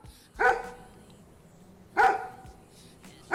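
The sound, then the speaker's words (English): A dog barks three times with long pauses between, each bark short and sharp, the last one cut off at the end, against a quiet background. “I'm gonna go kill that dog.”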